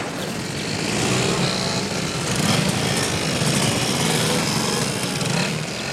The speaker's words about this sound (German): Markig brüllen die Motoren auf, die Fahrer geben Gas, Gas und nochmal Gas, sodass man hier am Start kaum noch atmen kann.